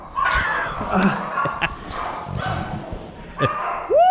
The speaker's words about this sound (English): The dog.